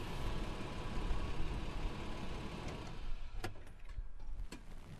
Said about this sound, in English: Well, we've made it up to the field site. We're actually in the parking lot. You might have been able to tell that from the gravel road sound, and I'm just about to park.